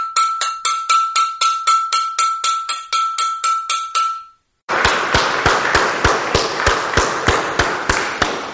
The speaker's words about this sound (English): We're trying to ring the bells or clangs and celebrate every time.